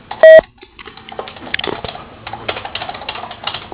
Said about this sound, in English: Please feel free to leave us a voicemail at the beep